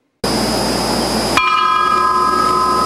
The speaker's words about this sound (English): Today, fellow officers held a ceremonial ringing of the memorial bell to honor Griss's end of watch.